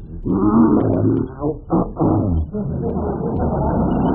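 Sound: bear growling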